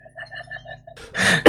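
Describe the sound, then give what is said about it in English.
A couple of harsh, loud coughs burst out, following a quieter stretch of soft, repeating tonal sounds. “Well, sorry for coughing, guys.”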